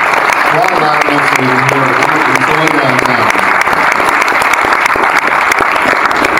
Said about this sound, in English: Give him a round of applause anyway.